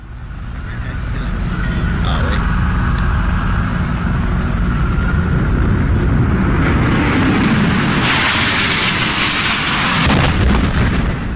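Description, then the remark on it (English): A jet plane crash and fuel explosion: a loud, sustained roaring rumble that keeps building, with fresh blasts of crackling noise near the end, overwhelming. A plane hits the South Tower between the 78th and 82nd floors at 9:03 a.m., slicing through the southeast corner, jet fuel exploding outside in a massive fireball. “Slicing through the southeast corner, the majority of the jet fuel exploding outside in a massive fireball.”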